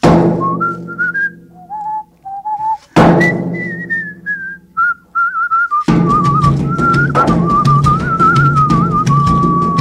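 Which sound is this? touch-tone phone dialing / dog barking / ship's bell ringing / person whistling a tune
person whistling a tune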